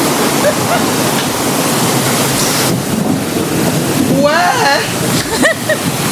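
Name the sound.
rain falling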